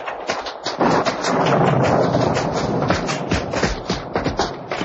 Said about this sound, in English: The rain's getting at us even through the trees.